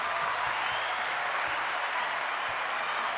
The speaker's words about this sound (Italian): Scusa, ecco, ti avevo un attimo perso, ti abbiamo introdotto anche con l'applauso